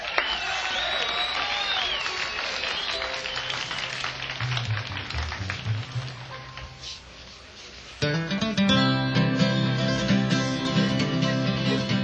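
A crowd claps and cheers steadily for several seconds, with a few whoops rising above the applause, before a bluegrass string band from Pufftown, North Carolina, abruptly launches into a tune that continues to the end.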